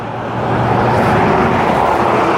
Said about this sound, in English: Okay, I'm at the end of the street. You can probably hear the traffic now. I have to go out to this one main road and ride down this main road for maybe 200 yards.